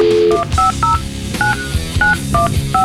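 A quick string of touch-tone telephone dialing beeps, about seven crisp, loud tones in an uneven rhythm, following a brief steady tone, as a host on Spokane rock station Rock 94 and a half dials out to make a phone call, with a music bed playing underneath.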